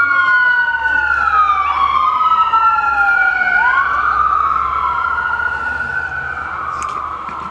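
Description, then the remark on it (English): Emergency vehicle sirens wail loudly and steadily, their rising and falling tones overlapping as they pass, with a low rumble of traffic beneath throughout. “And commercial break while these sirens.”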